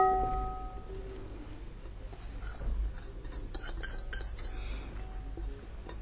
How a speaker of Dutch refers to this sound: En dan ga je het heel voorzichtig ga je het omscheppen. Je gaat niet heel hard zitten roeren. Want je hebt net je meel gezeefd. Dus je gaat het gewoon rustig door elkaar scheppen.